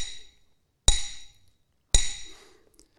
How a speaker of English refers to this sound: For this year, the ring of a hammer filled the silence.